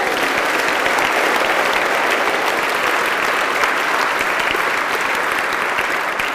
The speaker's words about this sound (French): Alors applaudissez la présence de Jésus. Est-ce que vous croyez vraiment qu'il est là au milieu de nous? Applaudissez-le encore.